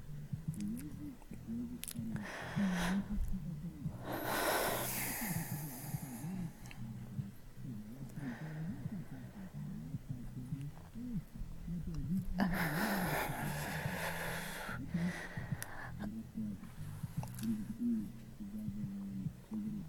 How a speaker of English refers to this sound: It's called breathing. I'm not gonna be able to not breathe, idiot. Of course, I'm gonna make noise if I'm breathing.